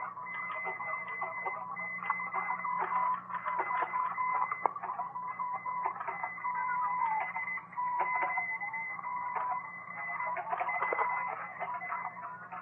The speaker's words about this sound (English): amazing virtuosity now being displayed in copying through interference with a QSA-5 signal.